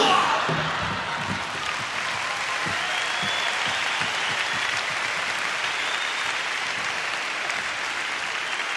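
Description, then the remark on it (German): A crowd of about 800 people from Hamburg imitates a construction site with voices and hands, a dense steady wash of hissing and clattering noise broken by scattered sharp knocks, loud and unbroken for about nine seconds. “Das sind 800 Hamburger, die versuchen, eine Baustelle zu imitieren.”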